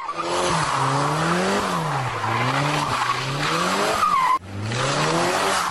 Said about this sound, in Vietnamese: Ông liền phát cáo, nhấn ga, nghiến bánh xe dưới đường, nghe điếc cả tai.